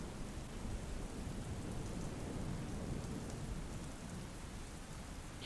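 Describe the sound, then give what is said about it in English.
Steady, heavy rain pours down with a deep rumble of thunder rolling underneath during a lightning storm, a continuous dense wash of storm noise with no voices. “It's because of the lightning.”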